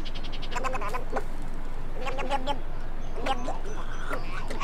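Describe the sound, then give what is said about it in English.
A male snowy egret's display call while showing off for females: a series of harsh, gurgling croaks in several bursts, fairly loud, over a steady background hiss. “Or if male egrets are showing off for the ladies.”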